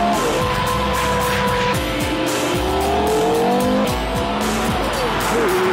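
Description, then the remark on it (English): A 5.7-litre V10 engine, originally designed for racing, roars in a road sports car driven at speed around a track, its pitch climbing and dropping through several rapid gear changes, with loud road and tyre noise throughout. “It's a 5.7 litre V10. Originally designed for racing, but now it's in a road car and the effect is absolutely mind-blowing.”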